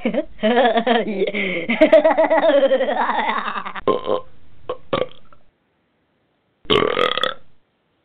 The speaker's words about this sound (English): Yeah, always got to get that last one in. It's like the most important part of the burp.